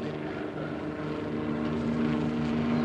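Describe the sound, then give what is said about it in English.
A steady, loud rotor drone fills the air as army helicopters fly in low, their deep engine hum unbroken throughout with no voices. “Army helicopters coming in low.”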